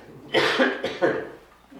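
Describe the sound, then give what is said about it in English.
Two quick, harsh coughs in a row, fairly loud, with a short gap between them and no talking around them. “I'm sorry, I did take a cough drop here.”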